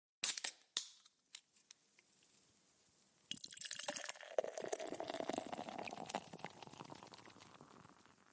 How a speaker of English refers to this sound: Yeah, and I totally fucking biffed it trying to pour my beer. Oh, yeah, that's half head. That sucks. That is half head right there.